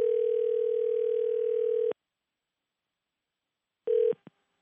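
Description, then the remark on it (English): A steady telephone line tone hums for about two seconds, stops, then returns briefly before cutting off with a couple of faint clicks, as though a call is connecting. No voices. “So 2 days ago, just 2 days ago, sure, I called John Harkin up on the phone, your cousin.”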